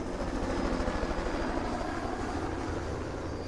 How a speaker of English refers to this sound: A helicopter soars over a stagnant city.